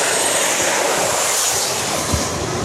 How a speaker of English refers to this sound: And then we have planes flying.